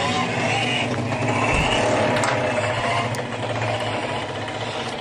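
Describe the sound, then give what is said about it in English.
Loud, steady roar of race car engines as the cars roll by before the green flag, filling the whole clip, a dense rumbling drone with a raspy mechanical buzz and slight swells as cars pass, with no voices. “As you can hear, the thunder as they roll on by again.”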